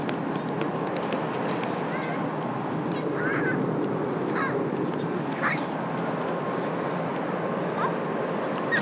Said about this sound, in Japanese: 遠くで巨大なフェリーの轟音がする中、イワシ、アジ、シャコ、ハゼが釣れているようです。